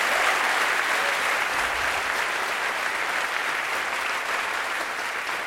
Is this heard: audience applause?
yes